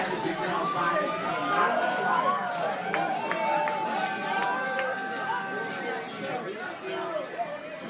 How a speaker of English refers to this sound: I'm in a packed bar, and the Warriors are about to win the championship.